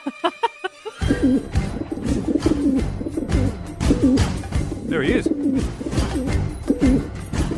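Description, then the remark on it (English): A pigeon coos in repeated low, throaty warbles, fairly loud, continuing for several seconds while a person speaks briefly over it. “They have captured a pigeon, which they believe is actually a Pakistani spy.”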